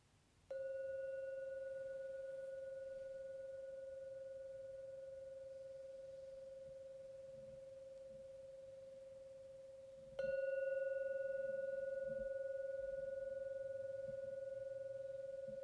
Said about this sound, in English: Now going to ring the gong 3 times. When the last ringing of the gong vanishes, it's a signal to come out from the meditation. The 3rd resonance of the gong fading away.